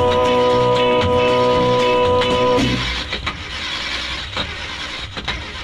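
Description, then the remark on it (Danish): A car engine cranks with a steady whining starter for a couple of seconds, then catches and settles into a rough, rumbling idle, fairly loud with no voices. “Ja, den bedste bil i verden er han, skal det nok forstå, så frem til fald han kunne få motoren til at gå.”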